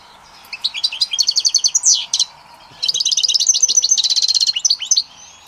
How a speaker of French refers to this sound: Chaque oiseau a un chant particulier. Et c'est vrai que ça, quand je suis chez lui, il y a 3 cages différentes. Et en fonction de la couleur de la cage, il arrive à se repérer. Mais chacun a son chant bien particulier.